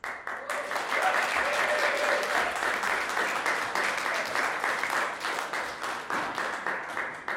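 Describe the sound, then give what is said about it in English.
A crowd at an afternoon cross-community conversation event applauds steadily for several seconds, a dense, even patter of many hands clapping that holds at a strong level and then starts to thin toward the end. “It's lovely to see such a crowd, because I know that earlier in the week there was an anxiety that not very many people would come to this.”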